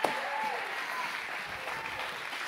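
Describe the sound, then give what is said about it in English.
An audience at a sermon claps steadily to give the Lord a hand clap, a dense wash of applause that fills the whole stretch at an even level, with faint voices rising through it. “Come on, give the Lord a great hand clap.”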